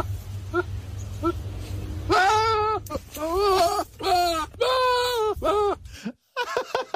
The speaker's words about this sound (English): There's the Will Ferrell goat as well. I play that fairly regularly as well. This is a goat that sounds like Will Ferrell in distress. So it's Will Ferrell upset about something.